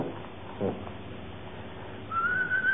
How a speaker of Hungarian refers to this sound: Mi van vele? Miért van olyan jó kedve? Miért fütyölt?